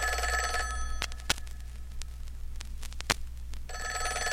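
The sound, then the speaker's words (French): An old-fashioned telephone bell rings in two loud bursts, with a quiet gap between them broken by a couple of sharp clicks. “Le téléphone! Le téléphone!”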